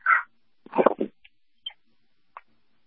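A female puppy lets out a burst of high yips and whiny barks, a short cluster followed by a few brief, thin squeaks with pauses between them. No one speaks.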